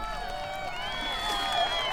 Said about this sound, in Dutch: Dan pas hoort Rani het applaus en gejuich. Bijna alle elfjes zijn naar de rivier gekomen. Hoera voor Rani, roepen ze.